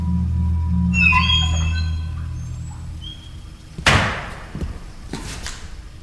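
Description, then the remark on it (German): Two heavy, booming knocks strike a closed door a second or so apart, loud, over a steady low hum with some faint whistling tones earlier on; a priest is pounding on the door, demanding it be opened and threatening to kick it in. “Macht auf! Oder ich trete die Tür ein.”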